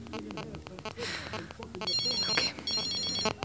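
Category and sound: signal or alarm, mobile phone ringtone ringing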